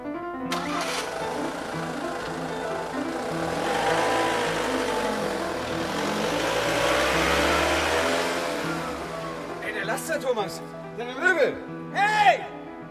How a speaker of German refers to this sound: Der Laster? Martha, wo fährst du denn hin?